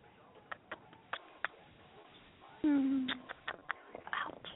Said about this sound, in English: What are you doing over there? Oh, wow. Sorry, I was kissing my kitty.